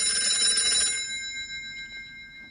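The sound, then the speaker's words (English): An old-style home telephone bell rings in one loud, rapid metallic trill for about a second, then its shimmering tone fades away. No one speaks. “Should we answer it?”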